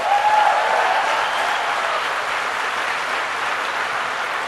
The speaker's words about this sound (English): Now, look around you. Look around you and give a big round of applause to all of those who have supported you over the years.